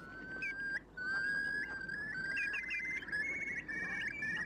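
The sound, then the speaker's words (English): Eurasian curlew calling: a string of clear, rising whistled notes that run almost continuously and grow into a bubbling series, over a steady rushing background. “The curlew was once a common and familiar sight in the Irish landscape, breeding in upland bogs and traditional meadows in the summer, then flocking to coastal estuaries, beaches and mudflats in the winter.”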